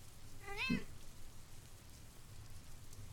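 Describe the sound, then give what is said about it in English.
A single short cat meow rings out near the start, clear, then fades into a steady patter of rain that continues alone for the rest of the moment. “No, I didn't just hear a meow.”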